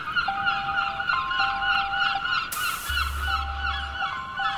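seagull calling

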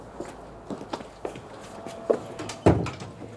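door being closed

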